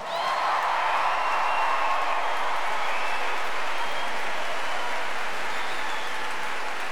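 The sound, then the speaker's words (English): A large audience claps and cheers steadily for the full seven seconds for the choirs from the Music Centre and the Kids' Company Choir, performing with the Aurora Orchestra, a dense, loud wash of applause with scattered whoops and shouts rising above it. “But let's see if you can give an even bigger cheer for our choirs from the Music Centre and the Kids' Company Choir.”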